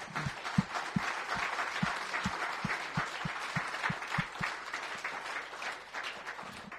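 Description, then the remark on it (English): An audience applauds steadily, many hands clapping in a dense, even wash of sound with a few sharper claps standing out, sustained for several seconds without fading. “Why don't we give them a round of applause before...”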